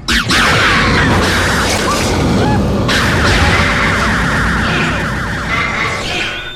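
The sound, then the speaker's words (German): Torpedoes are fired from a ship under attack and explode in a loud, dense barrage of rumbling booms and whooshing blasts, with a wailing, siren-like alarm tone running through the whole stretch and no speech. “Torpedo, Feuer! 6, 5! Torpedos, Feuer!”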